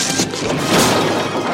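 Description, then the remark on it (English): A tall Black man knocks over a brick wall, a loud, sustained crumbling crash with dense rubbly noise that swells around the middle and tumbles on for over a second, no voices. “The tall black guy knocks over the brick wall.”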